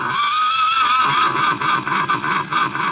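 A little horse snorts loudly. A drawn-out, high whinnying tone is followed by a quick run of rhythmic breathy bursts, with no talking.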